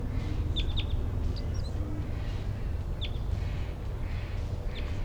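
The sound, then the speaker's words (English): Brief, high bird chitters come in scattered bursts, a quick pair, then single notes spaced a second or more apart, over a steady low rumble of background noise. No one speaks. “Wild chitter.”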